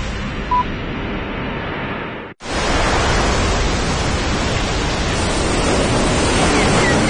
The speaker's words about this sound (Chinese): 这是位于南太平洋的全世界最大的海浪